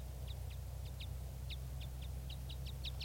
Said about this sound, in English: I'm at the net right now, and I can see a red crossbill, red male, up in the top of a tree, and it sounds like a type 5. Pointing at the wild bird.